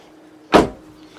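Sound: car door closing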